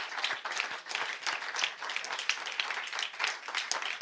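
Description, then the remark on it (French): An audience applauds the guests who took part in a discussion, many hands clapping in a dense, continuous patter that stays fairly even in loudness throughout, with no one speaking over it. “Je vous demande d'applaudir tous mes invités qui ont participé à cette discussion.”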